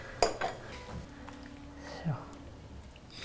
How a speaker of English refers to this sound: So actually, when you strain the dumplings, you left a little bit of the water in the plate, right. But now that you're stirring the butter it kind of creates a sauce.